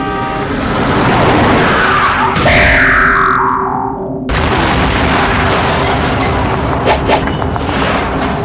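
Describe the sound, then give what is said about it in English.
In a video game, a rocket-powered police car launched with the control key makes a loud, continuous roar of a revving engine and rushing motion, with a descending whoosh around the middle and a sharp blast before the roar resumes, no voices present. “the control key will send a rocket... a rocket-powered police car to kill things.”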